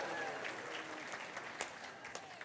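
Light, scattered applause from an audience, soft, with a few sharper individual claps standing out from the steady patter.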